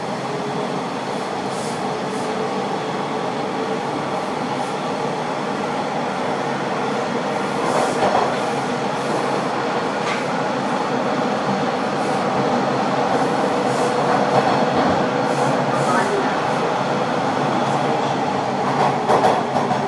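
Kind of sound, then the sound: vehicle, train running along rails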